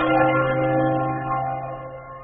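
A church bell's deep, ringing tone hums steadily and slowly fades, its rich overtones lingering with no voices present.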